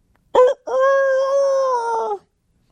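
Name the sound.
rooster crowing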